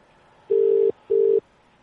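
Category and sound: signal or alarm, telephone tone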